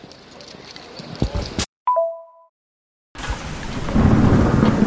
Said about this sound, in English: Hopefully you can hear this. I'm hiding under a shop window. It's like some kind of tropical storm.